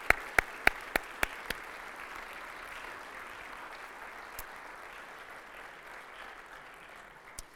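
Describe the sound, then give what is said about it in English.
A church audience applauds all those who have served, in a dense, steady wash of clapping. A handful of sharp, evenly spaced claps stand out at the start, then the applause continues evenly and eases slightly toward the end. “And if you could join me in a round of applause for all those who have served to make a difference, we give you thanks.”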